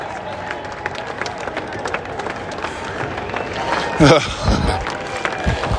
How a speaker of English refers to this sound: This is just constant applause for the players coming up.